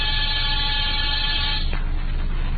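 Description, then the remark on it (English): A harsh electric apartment door buzzer sounds in one steady, continuous drone for under two seconds, then cuts off with a faint click, leaving a low background hum. “After disturbing 7 occupants of 7 different apartments and getting 7 nasty comments, I rang one buzzer.”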